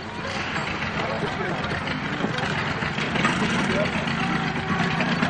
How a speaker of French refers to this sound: la scène de la moto dans Plaisir Inconnu